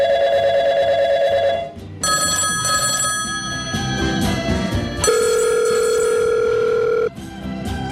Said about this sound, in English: Right, the old phones are ringing.